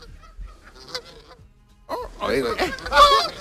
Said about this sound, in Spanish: Es un grito así más gutural. Entonces, viene borrasca, es la gaviota